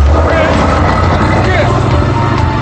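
A convertible's engine roars loudly and steadily as it speeds off kicking up dust, a deep continuous rumble with a rising mechanical whine layered over it.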